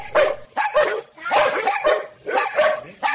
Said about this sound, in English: Quiet down! Sorry, that's my corn dogs barking.